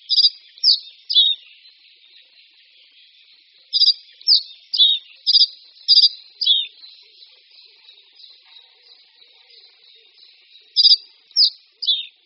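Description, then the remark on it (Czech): Short, bright song phrases of a reed bunting, a few chirpy notes repeated in three bursts with pauses between, clear, with a faint steady high hiss underneath and no talking. “Na rozdíl od rákosníků je však jeho hlas poměrně tichý a tak jsou mnohem nápadnější samotní přeletující ptáci.”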